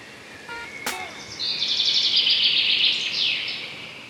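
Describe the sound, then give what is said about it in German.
Birdsong chirping, a bright sustained warbling trill lasting a few seconds after a sharp click, with faint short chirps earlier, no voices. “es gibt etwas, das kann auch eher so vorbeugend helfen, vielleicht auch bei einer leichten Depression, da kann es vielleicht auch noch eine kleine Unterstützung sein, nämlich rauszugehen, tief durchzuatmen und ein bisschen Vogelgezwitscher zu hören.”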